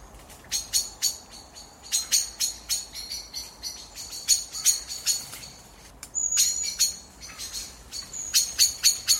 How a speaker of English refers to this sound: And the evening competitions as blackbirds roost.